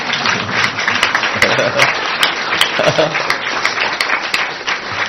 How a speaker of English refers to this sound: I think you clap because now it's over and you can eat prasadam.